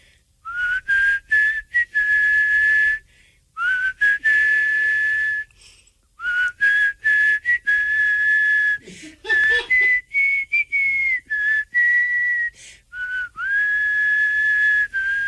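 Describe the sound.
A person whistles a slow, steady melody, the clear tone broken into several sustained phrases with short pauses between them and no talking.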